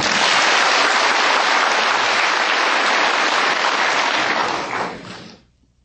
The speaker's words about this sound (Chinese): 现在请无上师的弟子报告他跟青海无上师结缘学习观音法门的情形与心得，请大家掌声鼓励。